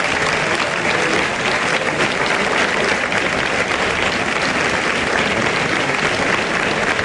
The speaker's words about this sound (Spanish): Pues bueno, ahí está recogiendo la ovación y ahora se encamina lógicamente a dar la vuelta al ruedo. Con la oreja.